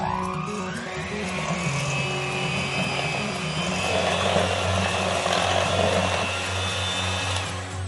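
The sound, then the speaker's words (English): An electric mixer whirs steadily for several seconds, mixing a spiced batter with ginger, nutmeg, cinnamon and ground cloves until fully combined, its motor hum holding a constant pitch while the beaters churn with a faint scraping rattle. No one speaks. “Then you're going to use an electric mixer to mix it all together until it's fully combined.”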